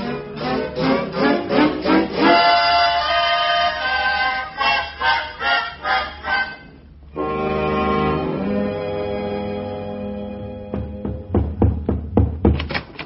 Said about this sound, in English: What's the matter? Are you all right? Sure. Oh, well, I heard you pounding on the floor. I was lonesome.